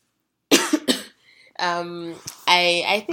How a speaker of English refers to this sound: I guess I need to put a caveat in case I don't remember to take out all of my coughing from this episode.